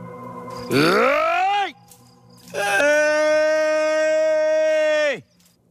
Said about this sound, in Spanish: Así se llama un cerdo.